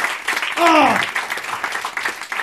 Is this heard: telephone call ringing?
no